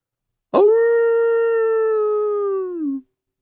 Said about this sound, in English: The wolf stood up tall, took a deep breath, and leaped at the animals with a howl.